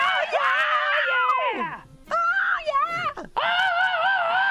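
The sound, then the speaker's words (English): A loud rock-style vocal scream in three drawn-out bursts, the pitch wavering and sliding down between them, raw and strained with no music behind it. “Oh, that's a nice rock scream right there. That's as metal as it gets.”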